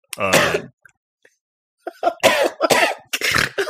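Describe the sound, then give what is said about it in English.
A loud, harsh cough bursts out, followed after a pause by a rapid run of several more hacking coughs in a ragged rhythm, with breathy rasps between them. “Just comfort him, get him to stop coughing, get his cough stop to talking.”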